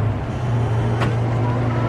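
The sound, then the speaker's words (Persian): A car engine idles with a steady low hum throughout, and a single short thump cuts through briefly at the midpoint as someone shuts the car's trunk before getting into the car. “خانمو در صندوق عقب رو میبنده، میره سوار ماشین میشه.”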